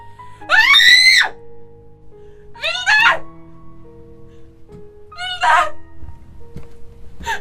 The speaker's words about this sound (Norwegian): Hva er det du hyler sånn for? Herregud!